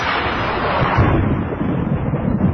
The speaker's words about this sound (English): Ah, the crack of thunder.